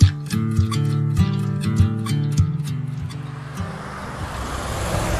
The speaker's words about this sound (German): Ja, ihr hört hier die Autos. Wir sind direkt an der Straße.